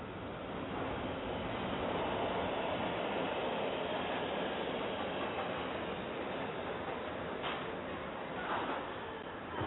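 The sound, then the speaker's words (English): Steady rumbling roar of a subway train rolling along, a constant dense wash of rail noise, with a couple of brief high squeals near the end. “I know the last episode of K1 Internet Radio was indeed the subway, but guess what? It's still rolling.”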